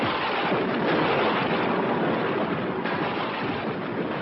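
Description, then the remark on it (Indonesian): Thunder from repeated lightning strikes rolls in a continuous, loud rumbling roar that stays steady for several seconds, with no sharp separate cracks standing out and no voices. “Tiba-tiba terdengar datangnya suara petir menyambar-nyambar.”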